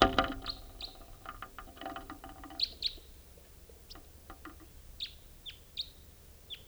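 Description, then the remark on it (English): A wild crossbill gives short, sharp high-pitched calls that repeat at irregular intervals, some in quick pairs, over a low background rumble with no talking. “Wild crossbill here.”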